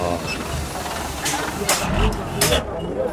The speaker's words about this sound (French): Il nous fout son tuyau d'échappement dans la gueule. Ça, c'est un camion qui transporte des minerais d'habitude. Oui, il transporte beaucoup, souvent c'est des minerais.